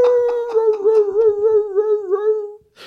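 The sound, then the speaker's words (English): A person imitates a neighbor's dog howling outside a studio, the way the dog mimics a passing ambulance: one sustained, wavering tonal howl held for nearly three seconds, loud, ending abruptly with a brief noisy burst. “My neighbor's dog. So fucking loud, howling.”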